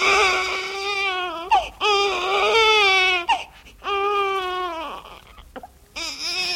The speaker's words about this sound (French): Un cri de bébé, pourquoi? Ouais, c'est gentil, là. Moi, oui, un braillement de bébé, oui,